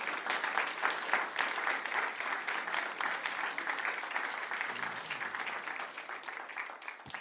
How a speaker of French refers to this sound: Est-ce qu'on peut les applaudir encore?